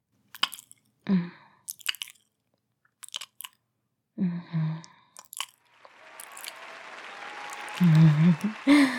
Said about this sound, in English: Oh, guess they like that. Man, you guys are really into cheering.